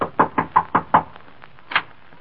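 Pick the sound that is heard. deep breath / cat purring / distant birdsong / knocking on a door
knocking on a door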